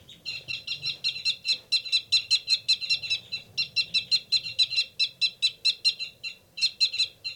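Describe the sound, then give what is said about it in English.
Caged birds, numbers 273 and 274, giving rapid fight calls, the rapid one from the male: a fast, steady run of high, sharp chirps repeating several times a second, loud and unbroken except for one brief pause near the end, with no talking. “There's a big commotion going on in 273 and 274's cage.”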